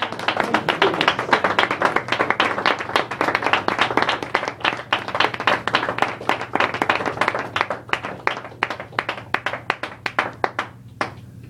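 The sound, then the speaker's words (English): An audience claps together for the Lord at the end of a church service, in dense, sustained applause that gradually thins into scattered individual claps near the end, with a low steady hum underneath and no talking. “Let's give the Lord another hand clap.”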